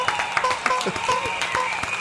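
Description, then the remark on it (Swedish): A burst of applause with steady, rapid clapping fills the short stretch, while a brief honking horn toot sounds over it, moderately loud. “Vi kör en applåd och en liten tuta på det!”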